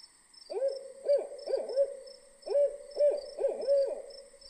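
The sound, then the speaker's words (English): An owl hoots repeatedly in a series of mellow, rhythmic calls, clear, with a faint steady high-pitched background hum and no voices. “For sounds in winter nights, and often in winter days, I heard the forlorn but melodious note of a hooting owl indefinitely far.”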